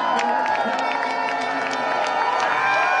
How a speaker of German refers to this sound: Um 21.39 Uhr erreichte der Meistertitel offiziell Berlin. Kapitän Max Dari bahnte sich mit dem silbernen, tellerähnlichen Pokal einen Weg durch die dichte, jubelnde Menschenmenge.